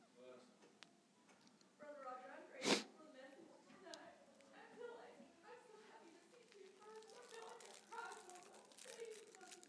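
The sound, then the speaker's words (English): A single sharp, loud sneeze bursts out near the start, amid a background of people murmuring and speaking quietly at a church service. “Bless you.”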